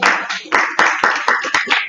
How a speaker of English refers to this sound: Gosh. I feel like I should clap. I'm so proud.